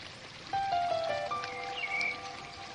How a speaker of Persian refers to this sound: کمی که جلوتر میریم صدای جریان آب به گوشتون میرسه. باز هم جلوتر بریم تا به رودخونه بزرگ خروشان برسید.